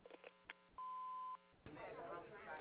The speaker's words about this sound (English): After the tone, please leave your phone number and message, and we'll get back to you as soon as we can. Thanks.